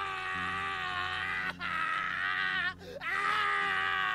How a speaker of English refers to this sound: It wasn't coming from any of them. It was the scream of a man in terrible, terrible pain.